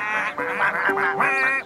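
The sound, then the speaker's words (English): Several colorful ducks on a farm quack loudly, their nasal, raspy calls overlapping in a busy chorus of quick bursts with no talking. “Here are some ducks.”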